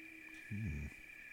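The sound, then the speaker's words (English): A single deep, resonant hoot from a fish owl, one of the larger owls. The hoot is short and fairly loud, rising slightly then falling, and is heard alone over a faint steady background hiss and a thin constant high tone. “One of the larger owls, the fish owl.”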